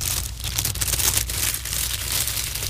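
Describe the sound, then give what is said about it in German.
Book pages are flipped back and forth in a steady papery rustle, with crisp crinkling bursts coming in quick succession for a few seconds, no voices present. “Sobald der Esel dies in der Krippe bemerkte, warf er die Blätter hin und her und suchte den Hafer.”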